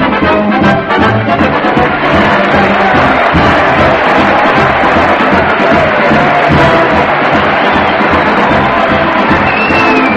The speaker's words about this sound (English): the band's playing, the crowd's cheering, and here comes Fred Allen leading a new big colorful parade at the old Town Hall